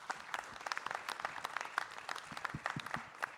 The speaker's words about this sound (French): J'allais l'inviter à l'Assemblée à vous applaudir, mais oui, elle m'a précédé, c'est déjà fait.